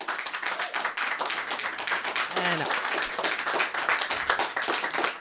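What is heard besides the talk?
audience applause and clapping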